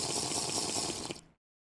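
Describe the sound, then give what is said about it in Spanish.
A single noisy slurping sip of hot coffee, a steady airy rush lasting just over a second before cutting off into silence, with no talking. “Y aquí tengo mi cafecito que le voy a dar un sorbito a ver si funciona esto de los sonidos”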